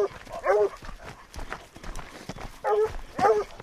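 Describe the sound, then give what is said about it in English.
Walker Red Tick hounds bay and bark in several drawn-out, tonal bursts, some overlapping, amid scattered thumps and rustling outdoors at the top of a canyon, having picked up fresh scent while hunting a cat. The calls are loud, with short pauses between them. “Within minutes, the Walker Red Tick hounds have picked up fresh scent.”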